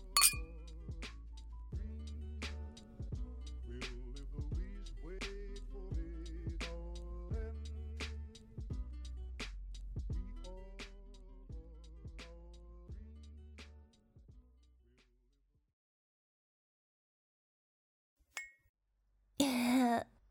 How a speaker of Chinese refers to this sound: 我也想尝尝了，要不一起喝吧？嗯。来，干杯。